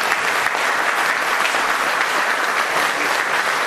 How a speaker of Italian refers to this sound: Adesso vedo in fondo i veri protagonisti, sono arrivati i piloti, accogliamoli con un applauso.